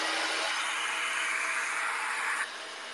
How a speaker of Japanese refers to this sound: いやこのドライヤーしてる時もね好きなんよ、このあったかい風、髪の毛が乾いていく感じ。